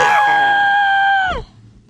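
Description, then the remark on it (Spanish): A loud, high-pitched scream of fright as a group of four exploring a dark cave all scream when something frightening and horrible appears, held steady for over a second before its pitch sags and it cuts off abruptly, heard alone. “De repente, algo aterrador y horrible apareció. ¡Y todos gritaron!”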